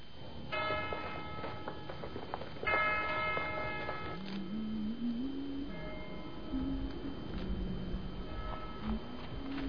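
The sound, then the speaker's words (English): A meeting bell tolls in slow, ringing strikes, each note hanging and fading before the next, with a fainter toll later on and a steady ticking clatter underneath. No one speaks. “The meeting bell started tolling.”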